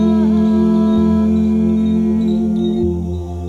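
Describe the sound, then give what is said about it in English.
A single steady hum with closed lips, held at one even pitch for several seconds, fairly loud, fading only slightly at the end. No talking. “We will begin with some gentle hums like this.”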